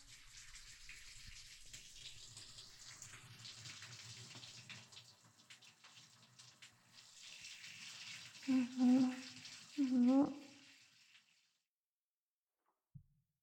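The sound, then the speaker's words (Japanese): Water pours steadily for about eleven seconds, rinsing foam away in a bath. Two short voiced sounds rise over it near the end, then the water stops and a faint knock follows. “ほら、泡流す。”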